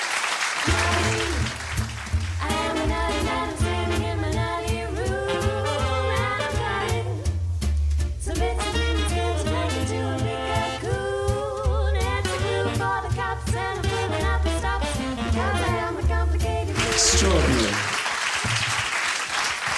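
Steady crowd clapping as two people are called onto the stage runs through the whole stretch, loudest at the start and finish, with upbeat music with a thumping bass line playing underneath in the middle.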